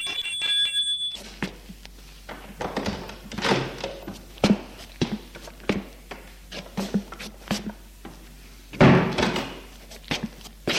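A doorbell rings once at the start as someone rings at the front door of a house, a short bright electronic tone, followed by a series of door thuds, knocks and shuffling handling noises, with one louder bang near the end.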